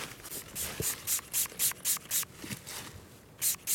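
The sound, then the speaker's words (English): A rapid series of short, hissing spritzes as fox urine is pumped from a spray bottle onto a wick, with about a dozen bursts in an uneven rhythm and no talking. “Spraying fox piss on this wick.”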